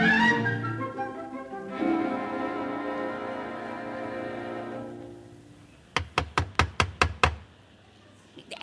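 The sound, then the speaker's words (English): A quick, even run of about seven sharp, loud knocks on the door of a house where nobody is in, following several seconds of sustained tonal sound; a faint sound follows the knocks. “No use going on knocking. There's nobody in.”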